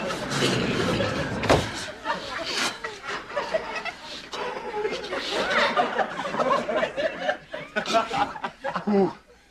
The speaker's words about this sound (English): Locked the door.